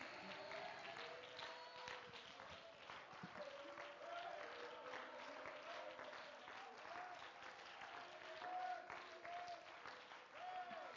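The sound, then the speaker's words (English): A church audience claps hands unto the Lord steadily for about eleven seconds, a dense, bright patter of many hands, with cheering and sustained voices rising and sliding above it. “Can someone clap your hands unto the Lord?”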